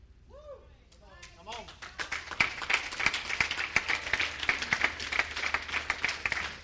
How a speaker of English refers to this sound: I clap louder at a football game than y'all just did. Y'all should be shaking the kingdom.